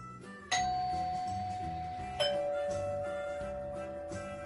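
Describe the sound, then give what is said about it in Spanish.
A doorbell rings with a clear two-note ding-dong, each chime struck once and left to ring out and slowly fade, over a soft, steady background. “Mientras pensaba qué hacer, sonó el timbre de su puerta.”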